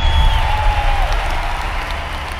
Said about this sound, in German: Die Balkontür öffnet sich. H.P. Hansen tritt heraus. Und in der großen Menschenmenge brandet Jubel auf.